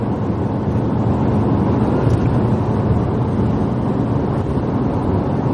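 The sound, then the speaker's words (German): A loud, steady low roar of an airplane passing overhead near Frankfurt Airport in Germany fills the whole stretch without rising or fading, with a faint rushing hiss on top and no voices. “Ach, da hat Flugzeuge schummeln die. Der Frankfurter Flughafen.”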